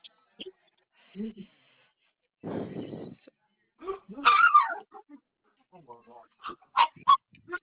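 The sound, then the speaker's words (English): Excited dogs bark and yelp in a scattered burst of sharp, high calls, some shrill and honking, with a brief low rumble; faint voices murmur between the barks. “I'm sorry, I have crazy dogs.”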